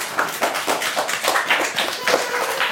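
A small group applauds a quiz given as a present, with brisk, overlapping claps that keep up a steady, moderately loud patter for a few seconds, with no voices heard over it.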